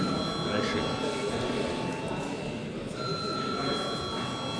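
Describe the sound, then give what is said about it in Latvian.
A parliamentary voting bell rings continuously for several seconds, a steady, high-pitched electric tone that holds throughout while a low murmur of voices carries on underneath, calling deputies to vote on a bill in its third reading. “Lūdzu zvanu.”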